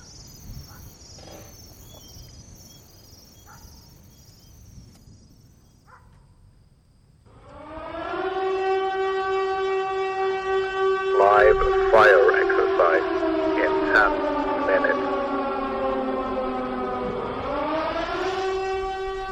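A steady alarm siren sounds at night, a sustained tone rich in harmonics that holds level and then slides downward, over a background of chirping crickets with a few faint sharp clicks.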